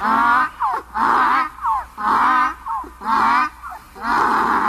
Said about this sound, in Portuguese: O jegue estava no portão, quis me pegar. Quando me viu, foi murchando as orelhas, mostrando o dente e começou a relinchar.